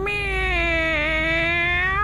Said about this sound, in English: The meowing started to sound different. It was not weak or desperate like an animal in distress.